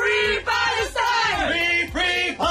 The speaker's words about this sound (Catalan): Els que escoltem són els crits que 5 activistes pro-palestins van enregistrar en un vídeo difós a xarxes al setembre de l'any passat. Havien aconseguit entrar dins les instal·lacions de l'empresa armamentística Elbit, de capital israelià